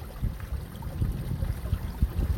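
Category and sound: nature, water flowing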